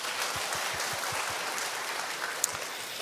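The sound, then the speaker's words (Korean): A church audience applauds to God for about three seconds, a dense wash of many hands clapping, with a few soft low thumps pulsing in rhythm early on and no voices. “우리 모든 영가 하나님께 박수 올려드리겠습니다.”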